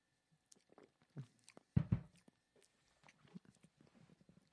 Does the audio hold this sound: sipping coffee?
yes